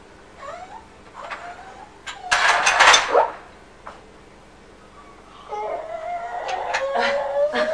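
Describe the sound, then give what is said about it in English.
A young voice imitates a toy train, starting with squeaky rising hoots, then a loud breathy hiss, and finishing with a long, wavering, buzzing hum. “What's that funny noise? Is that the noise of the train?”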